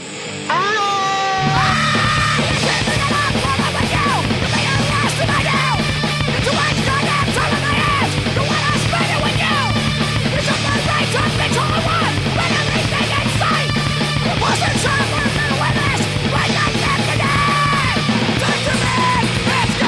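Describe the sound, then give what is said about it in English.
Harsh, shrieking black metal vocal screams ride over a wall of loud, dense distorted music, kicking in after a brief quiet opening and continuing relentlessly to the end. “Secondly, black scream.”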